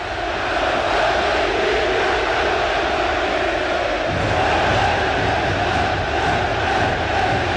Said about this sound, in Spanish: La gente está, pero enfervorizada, 18.000 espectadores gritando que se paren los cruzados, que se paren los cruzados. Saltan los suplentes a la cancha, nos quedamos con el ambiente del Claro Arena.